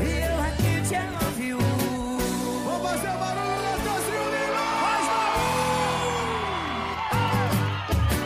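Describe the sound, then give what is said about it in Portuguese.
Loud, excited shouting and whooping rises over dense, driving music, with voices sliding up and down in pitch throughout, continuous for the whole stretch. “Quem gostou da gritão aí?”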